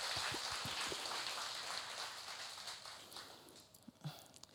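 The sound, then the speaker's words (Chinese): A church audience applauds, giving the applause to God, a dense, steady patter of many hands clapping together that gradually thins and fades toward the end, with no one speaking. “肯定神会睇住自己，我哋将掌声话归俾神。”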